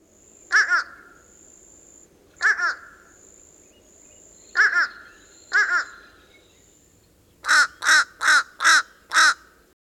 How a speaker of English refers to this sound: Compare it to the nasal call of the fish crow, a summer migrant. Young American crows can sound nasal also, but only the fish crow gives a two-syllable ah-ah call.